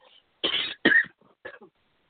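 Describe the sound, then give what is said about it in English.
A harsh coughing fit from a speaker in the middle of a sermon: two strong barking coughs in quick succession, then a weaker, raspier cough trailing off, with brief silences between bursts. “So apparently what I'm saying is helping somebody because right now I'm being attacked with this cough all of a sudden.”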